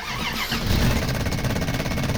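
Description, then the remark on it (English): An old truck engine cranks over with a steady, rhythmic low chugging and rattle, loud and continuous, never settling into a running idle, failing to start because of a faulty solenoid. No one speaks. “it's the solenoid again. Eric was right, I should have junked this thing.”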